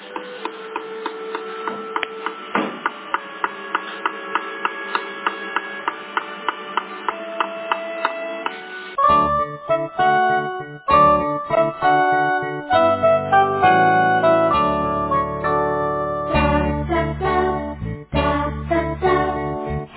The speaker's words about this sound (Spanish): Cada día, el bondadoso hombre trabaja para construir una habitación para Eliseo. Mira, aquí está el martillo. Escúchalo cómo suena.